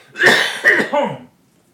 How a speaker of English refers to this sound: And hang on, I'm going to cough now.